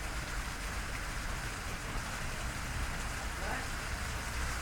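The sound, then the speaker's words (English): Hard hail pelts down steadily outside, a dense, continuous hiss and clatter that stays even and loud throughout, with a low rumble underneath. “I don't know if it'll pick up, but it's hailing very hard outside.”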